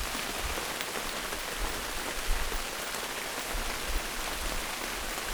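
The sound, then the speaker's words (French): Steady, heavy rain pours down under a grey sky and patters densely on a surface, a continuous hiss with low gusty rumbles, fairly loud, with no voices. “Il fait gris, il pleut, plus fort, ça coule dans mon cou.”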